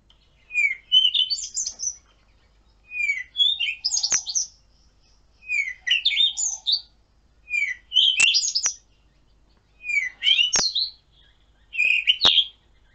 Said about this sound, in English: And just this morning we were listening to the birds, and I don't know if you know the Cape Robin chat, and it was singing its song, and I just want to play you its song to us now.